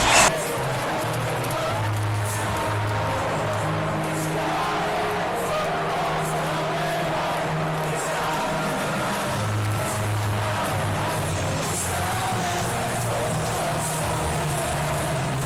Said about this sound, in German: Denn die Lionesses gewinnen im eigenen Land bei der Europameisterschaft den Titel im Wembley-Finale gegen Deutschland. Und so hat sich das im ausverkauften Stadion angehört. England!